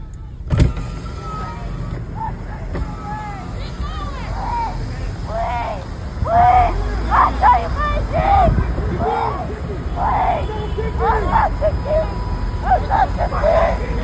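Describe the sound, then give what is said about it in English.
In a street video from Minneapolis, several voices scream and shout over one another in bursts of rising and falling cries, loud against a steady low rumble of traffic, growing more frantic in the second half. “The screaming here is just chilling.”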